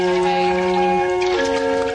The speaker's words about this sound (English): This is the water solo. This is the water solo now, yeah. Have a listen to this. Do you think that's the water playing the instrument? No, it could be.